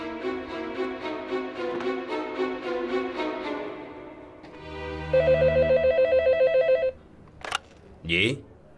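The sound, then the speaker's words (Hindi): A telephone rings with a call from the head office, rapid repeated bell-like pulses, loud, followed by a steady electronic ringing tone and a couple of short clicks or rustles at the end. “आपका phone, head office से phone आया है।”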